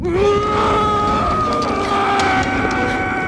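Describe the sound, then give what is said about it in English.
Actor Brad Dourif, voicing the doll Chucky as he is burned in a film's finale, lets out a loud, sustained scream that rises sharply and holds a strained, tortured pitch for several seconds, raw and anguished, with no other voices. “Like him just screaming in that microphone.”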